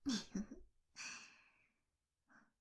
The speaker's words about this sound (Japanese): どうしてバレたって顔してますね。そりゃ、ロリコン特有の息遣いが聞こえましたから。